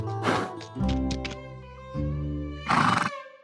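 A horse lets out a breathy burst, then a long, wavering neigh that trembles in pitch, and finishes with a loud, rough snort, from a horse sound library made for the show Spirit Riding Free. No one speaks.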